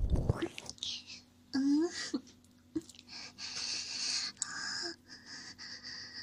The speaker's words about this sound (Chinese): 你的脸好红呀。被我喊住的时候，喘息声好大，我好喜欢。